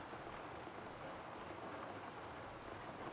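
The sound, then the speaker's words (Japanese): Steady rain falling without pause on a rainy day, heard from inside a room, a soft continuous hiss of countless drops spread evenly across the whole stretch, fairly quiet and even in level, with no voices. “それにさ、雨の日にこうやって君の部屋でのんびり過ごすの好きなんだ。”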